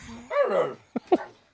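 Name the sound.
dog whimpering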